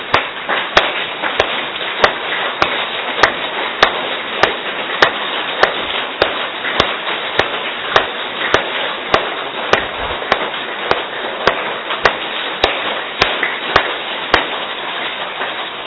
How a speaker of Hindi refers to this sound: सबसे पहली विधि, थोड़ी तालियां बजाओ राजा, कोई कोई आंखें बंद कराए जरा, अच्छी तरह से बजाओ।